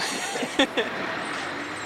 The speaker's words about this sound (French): Celui-là. Transport frigorifique.